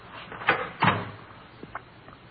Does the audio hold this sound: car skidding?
no